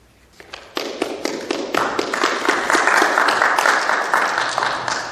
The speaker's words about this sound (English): This kind of continues. You don't have to clap between.